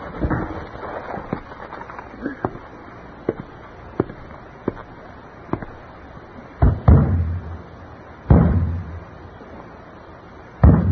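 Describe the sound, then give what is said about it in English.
A series of sharp thumps and knocks, a hand striking the side of a faltering radio's wooden cabinet to get it working, start light and scattered, then a few much heavier, louder bangs land near the end. “Bang it again.”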